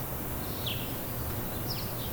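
A couple of faint, high bird chirps sound over a steady low outdoor hum, with no one speaking.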